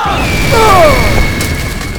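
A loud, sustained telekinetic blast from Phoenix: a dense booming rumble with swirling, sweeping energy tones and a thin high whine, filling the full two seconds with no speech, as Xavier is blasted from his chair and crashes into the grass of the Greys' front lawn.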